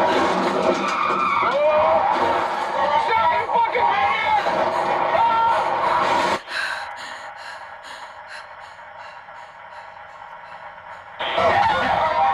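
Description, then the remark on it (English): A car skids across the road with a long, harsh screech of tires, then a sudden drop to a thinner, high-pitched whine before loud noise returns at the end, with voices and gasps mixed in. “He ain't going anywhere without a tow truck and maybe a clean pair of shorts.”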